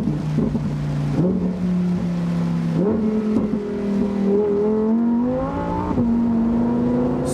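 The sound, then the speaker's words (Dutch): A Lamborghini Huracán's 5.2-litre, 640 hp V10 engine, which revs to 8,500 rpm, revs up in stepped surges, its loud, rising howl climbing through the gears, continuous with no talking over it. “Zo'n lekker motorblok. De V10, 5,2 liter groot, mag 8500 toeren draaien.”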